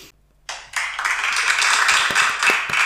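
A burst of canned applause, a dense wash of many hands clapping that starts abruptly after a brief silence and holds steady and fairly loud to the end, with no voices.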